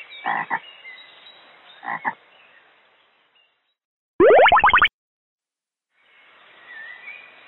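A single loud, short frog croak with a rapid, rattling pulse, standing out after a stretch of soft background hiss and a couple of muffled bursts. No one speaks.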